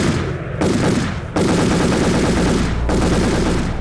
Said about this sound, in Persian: اما ایده از جوانان احساساتی ای پیروزی را با فیرهای مسلسل و پای هم تجلیل کردند که ای اقدام آرامش مردم در شهر کابل و سایر شهرها برهم زد.